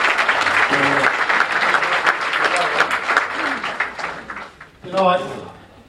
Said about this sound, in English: Thanks. You give us a short round of applause.